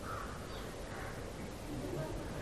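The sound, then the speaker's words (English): Crows caw a few times among trees in the early morning, harsh calls rising faintly over a steady outdoor hiss and murmur. “Do you think the crows are doing it for some purpose?”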